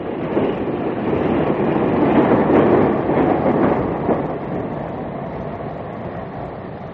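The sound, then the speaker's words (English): A night train bound for London rumbles steadily on the rails, its broad rolling noise swelling briefly before gradually easing off as it slows at Exeter station, with no voices present. “I'm on my way back to London on the night train.”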